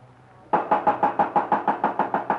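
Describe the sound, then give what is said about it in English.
After a brief quiet moment, a rapid, steady series of about ten knocks on the door of a house rings out fairly loud on a foggy day, with no voices. “Okay, knock on the door.”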